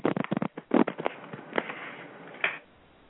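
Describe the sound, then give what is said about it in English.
Tarot cards are shuffled in a quick burst of papery flutters and snaps, followed by a few scattered soft clicks and one last sharp slap of cards. No one speaks. “That was a shuffle, by the way.”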